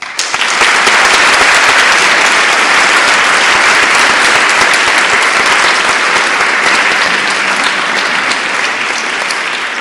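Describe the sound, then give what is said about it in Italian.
Loud, steady applause from many hands greeting the teacher before a Jewish lesson, a dense wash of clapping that starts almost at once and holds evenly for about ten seconds without fading. “Allora, adesso salutiamo il maestro con un applauso, poi lui intonerà il canto, lo seguiamo 2 minuti e poi inizia la lezione.”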